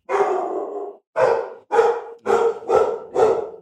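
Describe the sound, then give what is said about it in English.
Two big pit bulls bark loudly: one drawn-out, howling bark followed by five quick, sharp barks in a steady, agitated rhythm, with no talking. “Dogs are going crazy.”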